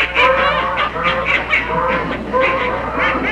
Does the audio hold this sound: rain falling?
no